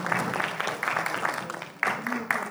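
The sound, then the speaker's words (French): An audience claps steadily for a couple of seconds, a dense crackle of many hands at moderate volume, with a voice speaking faintly underneath. “On peut l'applaudir.”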